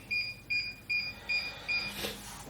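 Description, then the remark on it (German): A new electric stove with a touch control panel beeps five times in a steady, evenly spaced rhythm, each short high-pitched electronic tone clear and moderately loud, followed by a brief soft burst of noise. “Ihr hört das ja hier vielleicht nicht piepen.”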